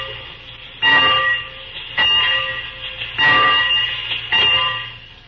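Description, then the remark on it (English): A locomotive bell clangs four times at a steady, unhurried pace, about once every second, each loud metallic strike ringing on over a low background rumble. “Oh, just ring the bell.”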